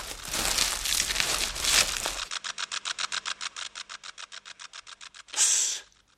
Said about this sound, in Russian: Слышите? Что это? Треснуло и затихло. Ну, улетел. Это кузнечик зеленый.